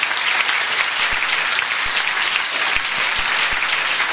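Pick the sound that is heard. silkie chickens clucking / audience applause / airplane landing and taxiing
audience applause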